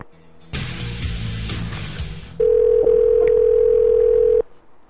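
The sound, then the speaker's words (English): A prank telephone call is placed: handset clatter and line noise, then a loud, steady dial tone holds for about two seconds before cutting off abruptly. “All right, we'll call that right now.”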